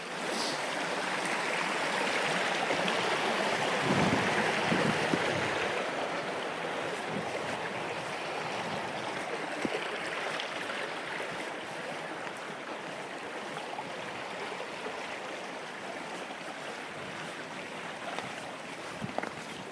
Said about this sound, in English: Now there we are, there's a bit more of that stream really coming down. The water looks, you know, very clear. It goes over quite a sort of rocky bed to the stream itself, so the water looks really clear.